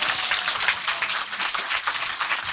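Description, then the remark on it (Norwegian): Steady audience applause for Norwegian crime writer Karin Fossum, a dense wash of many hands clapping at once, sustained and fairly loud throughout with no one speaking. “Og hennes elskede Pona, applaus gjerne for Karin Fossum med en gang.”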